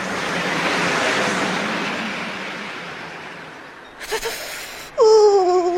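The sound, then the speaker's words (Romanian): A roaring, gusting wind of a blizzard in the countryside swells loudly, then slowly dies away. A short rustling burst follows, and a high wavering whistle sounds at the very end. “La oraș n-am prins în viața mea o viforniță ca asta de acum.”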